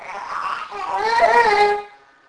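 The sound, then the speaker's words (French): A baby fusses and cries in one short wailing burst of about two seconds that swells, holds briefly, then cuts off into quiet. “Allez, ne pleure pas.”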